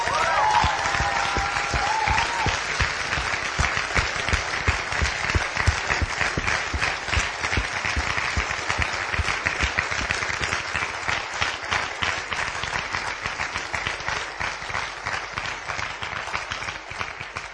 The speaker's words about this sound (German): Für dieses Pastoren-Ehepaar wollen wir jetzt an dieser Stelle einen ganz großen Applaus geben.